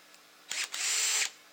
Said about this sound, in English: I can do just about anything with this. This is a force multiplier right here. So a drill gun.